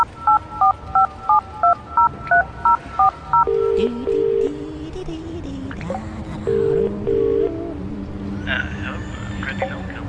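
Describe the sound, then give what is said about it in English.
A rapid, even run of about ten touch-tone telephone dialing beeps as the Crypt Keeper places a call, followed by two pairs of ringback tones on the line over a low, steady background murmur. “I'm just on the phone trying to scare up some scratchings.”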